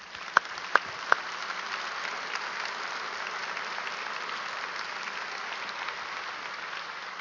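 An audience applauds steadily, a dense, even wash of clapping that holds at a constant level throughout, opened by three sharp, louder claps near the start.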